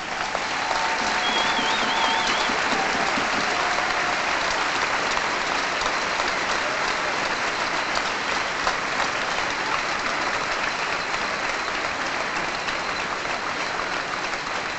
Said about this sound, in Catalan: Per això ja ho heu fet diverses vegades, però per empènyer aquesta petició potser podríem dedicar ara un aplaudiment a totes les nostres heroïnes amb espardenyes.